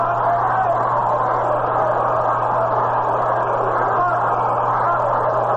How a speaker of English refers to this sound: Well, the kids are waking up out in the bleachers now, yelling, "We want to hit."